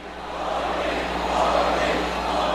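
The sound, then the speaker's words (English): A sold-out crowd at Madison Square Garden in New York cheers as Indian leader Narendra Modi takes the stage, a steady, dense roar that swells slightly midway, a continuous wash of many voices with no single words standing out. “In the house of the New York Knicks, the leader of India took the stage at Madison Square Garden over the weekend to the sound of a cheering, sold-out crowd.”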